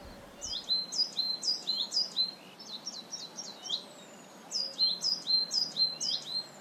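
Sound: blackbird singing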